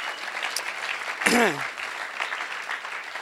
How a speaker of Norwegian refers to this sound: På 3 gudstjenester, ja, gi gjerne en applaus for det.